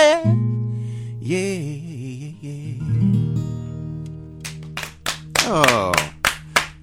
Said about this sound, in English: Clapping in the studio. Yes. Can't help ourselves.